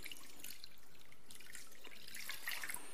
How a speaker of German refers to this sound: Wasser sollte nicht zu heiß sein, dass man sich da die Finger dran verbrüht, sollte aber auch nicht zu kalt sein, weil sonst dauert es relativ lange. Wir haben hier einmal kaltes Wasser, einmal warmes Wasser. Ich mische das einfach mal ein bisschen.